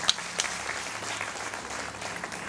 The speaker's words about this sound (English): First, I want to bless the Lord for my wife. Amen. We can clap for her.